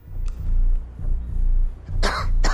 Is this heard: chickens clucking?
no